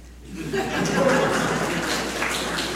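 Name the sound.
audience clapping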